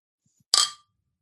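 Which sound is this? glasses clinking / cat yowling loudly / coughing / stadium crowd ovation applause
glasses clinking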